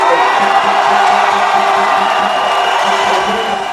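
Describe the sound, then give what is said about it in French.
A large crowd cheers and shouts in jubilation at the announcement of the election victory of general Oligingema, a loud, dense roar of many voices with whoops rising above it, sustained throughout without pause. “La foule a exulté dès l'annonce de la victoire du général qui a mis une pause dans sa carrière militaire.”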